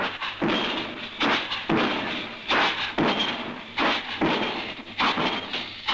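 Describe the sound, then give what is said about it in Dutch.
A pile driver, with Mr. Gieben at the machine, drives the first steel sheet piling of a large construction dock into the ground near the central station in Rotterdam for the new metro. Heavy, regular blows land roughly one every three-quarters of a second, each a loud clanging thud ringing briefly before the next strike. “Vlakbij het centraal station stond de heer Gieben aan de heimachine om mee te helpen de eerste stalen damwand van een groot bouwdok in de grond te slaan.”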